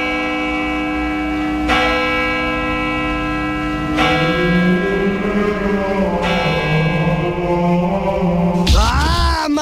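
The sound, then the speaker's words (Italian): Heavy church bells toll loudly at eight o'clock in the morning, each strike arriving roughly every two seconds and leaving a deep, humming resonance that overlaps the next, with no voices present. “precisi come le campane che tra poco suoneranno, come ogni santissima mattina alle 8 in punto.”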